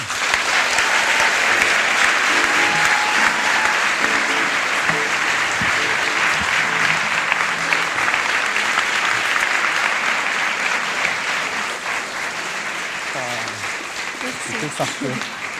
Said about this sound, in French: Merci d'applaudir très très fort